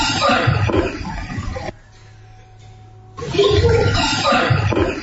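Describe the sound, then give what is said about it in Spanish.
A garbled, gurgling psychophony voice recording, wet and distorted as if heard through water, comes in two loud, noisy bursts separated by a brief near-silent pause. “Es como una voz que sale y no sé.”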